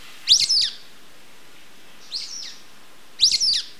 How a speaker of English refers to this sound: So while you're out, it's worth searching for some of their more conspicuous canyon compatriots, too. Listen for the squeaky calls of the sulfur-bellied flycatchers.